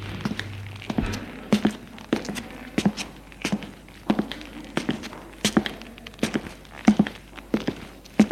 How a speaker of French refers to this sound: Il monte les escaliers jusqu'au troisième.